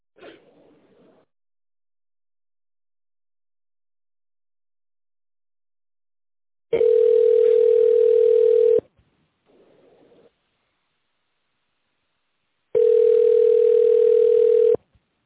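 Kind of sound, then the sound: signal or alarm, telephone line waiting tone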